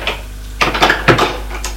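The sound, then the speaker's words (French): Dishes clink and rattle in a few short bursts, crockery knocking together with brief pauses between, over a faint low hum and no voices, as someone opens a rosewood sideboard holding only dishes. “Il n'y a que de la vaisselle.”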